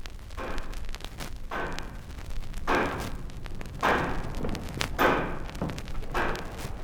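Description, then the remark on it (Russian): The pendulum of the Kremlin chimes in the Spasskaya Tower on Red Square knocks steadily, a series of dull, heavy thuds about once a second, evenly spaced with a faint hum between beats and no voices. “Так прислушайся, как бьется сердце площади, как стучит маятник курантов, бой которых командует движением времени нашего века.”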